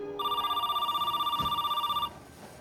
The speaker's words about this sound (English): Man, this idiot better pick up the phone.